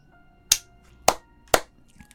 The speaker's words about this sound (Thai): หันสาวดีตบมือ3ครั้ง